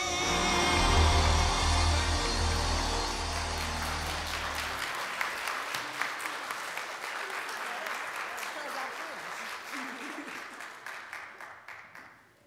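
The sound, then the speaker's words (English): The Grove Park church audience claps hands in praise of God in a dense, steady wash of applause that continues throughout, with a deep sustained tone underneath for the first few seconds before the clapping tapers off at the end. “Come on, don't stop clapping now. Keep clapping.”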